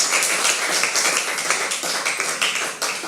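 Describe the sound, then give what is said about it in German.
A crowd breaks into sustained applause for the youth pastor, many hands clapping densely and steadily for a few seconds, loud, with no voices standing out. “Und falls ihr dürft, ich weiß, was die Corona-Regelungen mittlerweile sind, jedes Mal ist neu, dürft ihr jetzt mal eurem Jugendpastor einen fetten Applaus geben, hier und auch in den Screen.”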